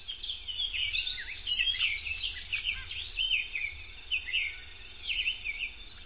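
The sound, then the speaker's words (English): A blue songbird sings a rapid, continuous warble of high, bright notes and chirps, fairly clear, with a low hum of background noise beneath and no voices. “With the right balance of forest and meadow, this beautiful bird will continue to thrive.”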